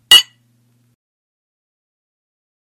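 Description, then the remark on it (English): A single bright clink of glasses touching in a toast, short and ringing briefly before fading into silence. No voices or other sounds follow. “I'll raise my glass to that. Cheers!”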